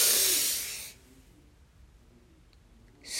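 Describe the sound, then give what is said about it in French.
A deep, airy inhalation through the nose, fairly loud, taken to energize oneself, lasting about a second before near silence; another breath begins right at the end. “Inspirez profondément pour vous dynamiser.”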